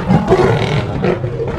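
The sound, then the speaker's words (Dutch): The lions Samson and Ryan roar together in a loud, sustained, overlapping blast that fills the whole short moment, powerful, with no talking, roaring so hard that the cave collapses. “Samen brullen ze zo hard dat de grot instort.”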